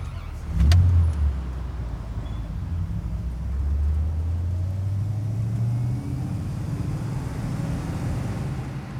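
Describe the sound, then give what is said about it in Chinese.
A car pulls away after a short sharp click as it sets off to drive home, its low engine hum rising steadily in pitch as it accelerates, then settling into a steady drone. Fairly loud, with no voices. “好了，那我们可以出发了。”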